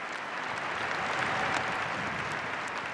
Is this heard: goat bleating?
no